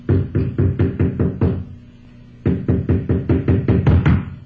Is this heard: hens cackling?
no